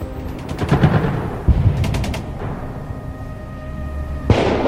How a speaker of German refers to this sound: Die Kriegsfront kennt nur das Donnern, das tödliche Donnern von Panzerrohren und Bomben. Die Front ist laut und gnadenlos, gerade auch jetzt in der Ukraine.